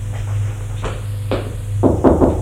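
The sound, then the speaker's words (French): A man knocks on an office door: a few scattered knocks, then a quick cluster of three firmer raps near the end, over a low steady hum. “L'homme va frapper à une porte”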